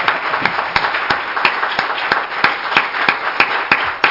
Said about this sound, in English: Come on, give the Lord a big old hand clap. Come on, let's go.